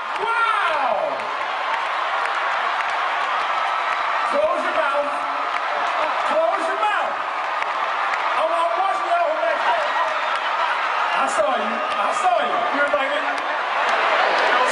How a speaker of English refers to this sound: I just want to play a short clip of the performance, particularly the end after your chapter left the stage and the crowd went wild, something the MC of the event clearly took notice of.